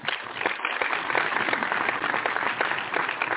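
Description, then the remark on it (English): Sustained audience applause, a dense crackle of many hands clapping at once that holds steady and fairly loud for the whole stretch, with no voices standing out. “Let's applaud Rocky.”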